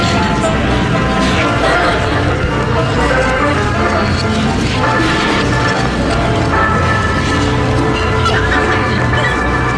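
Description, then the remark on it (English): Bird calls, like barnyard fowl clucking, ring out repeatedly over a dense, noisy background, fairly loud and continuous for the whole stretch. “And a bird.”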